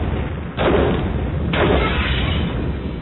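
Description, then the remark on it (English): Two heavy explosions go off about a second apart, each a loud boom that rolls into a sustained low rumble, with no voices present. “She was almost done strapping herself in when the explosions went off.”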